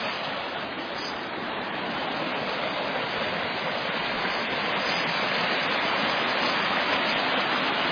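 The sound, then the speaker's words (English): Steady rushing of year-round creek water tumbling over small waterfalls, with ice on the creek in the shade and bridges here and there; a dense continuous splashing roar that holds constant for the whole stretch, with no voices. “Waterfalls all down here with bridges here and there.”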